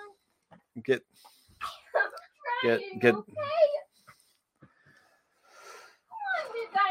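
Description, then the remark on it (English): A young child in the background, trying to herd kittens and asking them why they're going after each other, calls out in several short, excited high-pitched bursts, some sing-song and some whiny, almost cry-like, with brief pauses between them. “Well, if you're hearing the child in the background trying to herd cats, that's fun.”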